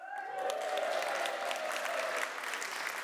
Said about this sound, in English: All right, so let's welcome the teams. Let's cheer for them.